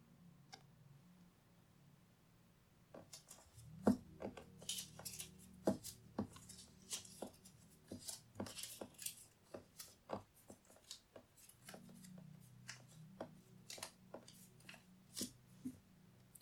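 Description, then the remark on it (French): A stack of four slips of paper is flipped over again and again, giving a quick, uneven run of soft papery slaps and clicks, with no one speaking. “Maintenant, vous allez retourner cette pile autant de fois qu'il y a de lettres dans la chose que vous détestez.”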